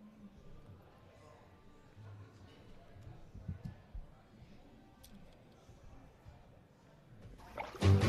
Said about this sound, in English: …, I was taking a bath long about a Saturday night.